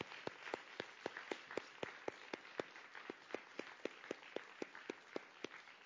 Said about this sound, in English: Do we have any veterans here this morning? Any veterans here this morning? If you would, could you please stand? We want to honor you. Let's honor our veterans. Give them a round of applause if you're able.